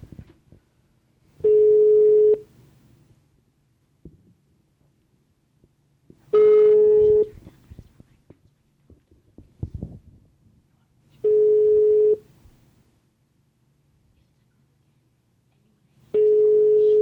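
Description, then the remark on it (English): A foreign-style telephone ringing tone on a call to a hotel repeats four times, each a steady one-second buzz followed by about four seconds of near silence, as the call goes unanswered. “Foreign ring.”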